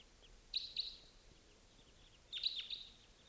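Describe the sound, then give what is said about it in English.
A wild bird coming in at 5:37 calls in two short bursts of bright, high chirps, a pair of quick notes near the start and another cluster about two seconds later, with quiet background hiss between. “Here comes a bird.”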